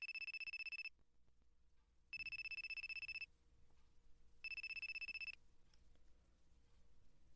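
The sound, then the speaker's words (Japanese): A telephone rings three times in a steady on-off pattern for an unanswered call, each bright electronic trill lasting about a second, clear, with quiet background hum between rings and no talking. “出ない。電話の音聞こえないのかな。”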